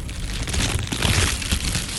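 Crinkly wrapper sounds of candy being unwrapped, a steady dense crackling and rustling that runs throughout at a fairly even loudness, with no voices.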